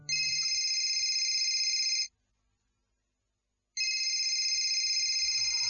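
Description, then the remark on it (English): A mobile phone rings late at night in two long electronic bursts of about two seconds each, separated by a brief silence, loud with no talking over it. “Late in the night, as he is about to go to see him before leaving for airport, his phone rings.”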